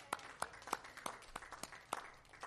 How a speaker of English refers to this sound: I see a baby back there. First time visitor. All right. Awesome. Let's, beautiful. Let's give a round of applause for a new baby.